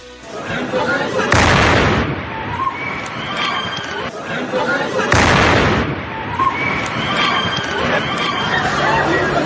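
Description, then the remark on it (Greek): A bomb placed on a bench outside a shop explodes with a loud boom across a busy street in Istanbul, Turkey, about 200 metres from the Greek consulate; a second blast follows a few seconds later, with crowd chatter and shouting underneath and continuing afterward. “Πάμε να ακούσουμε την έκρηξη.”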